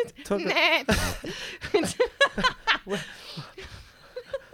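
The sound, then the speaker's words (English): A loud, quavering sheep bleat sounds near the start, followed by a jumble of shorter bleat-like cries and chuckling voices. “Cows, is it? Cows and sheep.”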